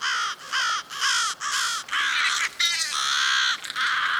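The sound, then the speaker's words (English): Several crows caw loudly, harsh calls tumbling over one another in quick succession, some overlapping, with only brief gaps between bursts and no talking. “Crows have adapted to our modern world.”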